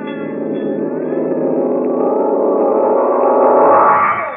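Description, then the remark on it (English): A fire bell alarm rings continuously at a gold mine on fire, with a rapid, metallic clangor, loud and harsh, building slightly in intensity toward the end, with no voices over it. “That's the fire bell.”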